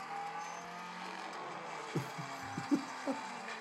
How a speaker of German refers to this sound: Aber hier, der Motor heult.